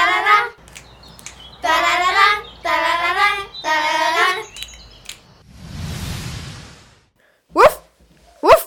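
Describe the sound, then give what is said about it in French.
A dog, Barry, a high-mountain companion dog, barks in a series of drawn-out, wavering barks, then gives a breathy huff and two short, sharp barks at the end. No one speaks. “avec mon chien de compagnie Barry, chien d'haute montagne.”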